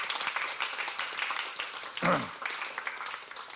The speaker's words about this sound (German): Applaus, ja, absolut, es ist gut.